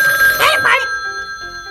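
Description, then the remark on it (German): A telephone rings in a headquarters office with a loud, bright, trilling burst that fades into a lingering electronic tone. No one is talking. “Am nächsten Nachmittag klingelte in der Zentrale das Telefon.”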